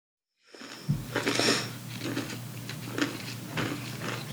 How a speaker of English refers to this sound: Okay, try talking and I'm going to talk it out. Can you hear me crunching on a chip? Perfect.